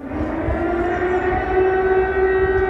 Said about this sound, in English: Meanwhile, in Ukraine, air raid sirens rang out through the night, sending people underground into subway stations in the capital, Kyiv.